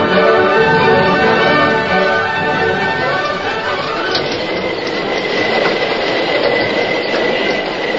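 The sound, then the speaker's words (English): A fast-moving steam train rushes along the rails toward a river, with the Lone Ranger in the engine cab trying to stop it, a loud, steady roar of rumbling wheels threaded with ringing metallic tones and faint squeals, continuous throughout. “Inside the cab of the engine, the Lone Ranger, deserted by the fireman and the engineer, worked frantically to bring the fast-moving train to a stop before it reached the river and plunged into the void where the bridge had been.”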